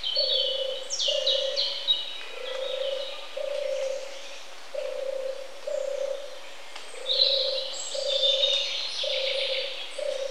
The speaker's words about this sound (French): vous entendez la tourterelle dans les bois qui fait son roucoulement. Eh bien, écoutez bien le roucoulement de la tourterelle et vous entendrez qu'elle dit « Mon tourte, mon tourte, mon tourte ».